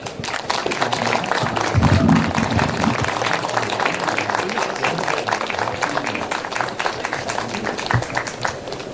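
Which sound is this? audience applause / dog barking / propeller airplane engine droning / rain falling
audience applause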